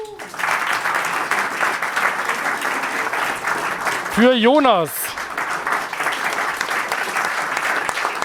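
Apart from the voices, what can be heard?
audience applause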